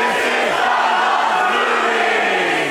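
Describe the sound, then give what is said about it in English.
A live audience at a Doug Loves Movies show at the Improv in downtown San Jose, California, yells and cheers loudly and without a break for a few seconds, a dense roar of voices with one wavering shout standing out above the crowd. “Yeah, see, you were gonna have a chance to yell anyway if you just waited.”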